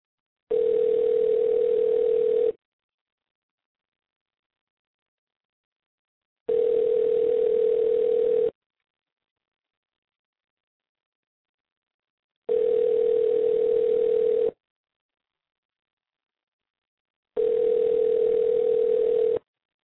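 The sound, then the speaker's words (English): An outgoing call's ringback tone on a call made during the Norm at Night show that nobody answers: four identical two-second buzzes of a steady, mid-low pitched tone, separated by roughly four seconds of silence, with nobody talking. “It's ringing.”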